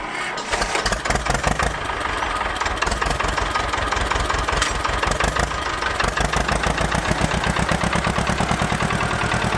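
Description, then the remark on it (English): A tractor engine cranks into life and settles into a loud, steady chugging idle with a rapid rhythmic pulse, with no voices; a tractor on a charity tractor road run along county roads in East Anglia. “The sight of tractors bustling along the county's roads is not unusual.”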